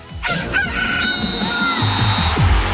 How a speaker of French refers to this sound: Et le coq, vous l'avez entendu